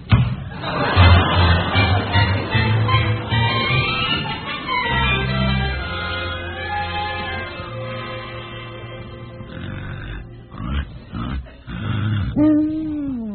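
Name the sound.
loud snoring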